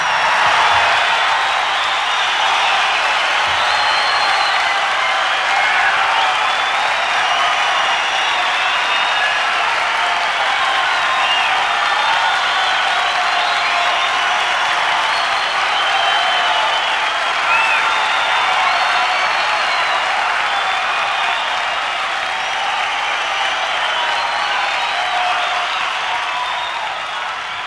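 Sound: concert audience applause calling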